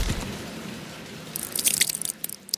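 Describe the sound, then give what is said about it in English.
A dull, heavy thud of a person landing on a stone floor, then after a short pause a burst of wet splashing water and scattered dripping follows, moderately loud, with no voices. “And with a thud and a wet splash, I failed to hit a stone floor with water splashing all around me.”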